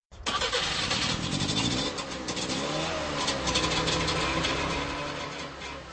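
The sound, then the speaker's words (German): The small two-stroke engine of a bright yellow Trabant cranks and catches. The car carries two fuel canisters in front of the grille and two spare tyres on the roof and is used by Czech adventurer Dan Przybyń. The engine runs with a rough, buzzing rattle, revving up and down loudly for several seconds before settling. No one speaks. “So sieht das Modell des Trabant aus, mit denen der tschechische Abenteurer Dan Przybyń schon zum dritten Mal auf große Fahrt geht.”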